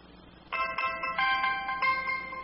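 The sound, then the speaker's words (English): A BlackBerry phone alarm ringtone called Alarm Antelope chimes in a quick, bright, bell-like pattern of repeating high tones, starting abruptly and staying fairly loud over a faint low hum. “It's called Alarm Antelope. And I guess I'm told that it's what wakes up everybody in the morning if you have a BlackBerry phone.”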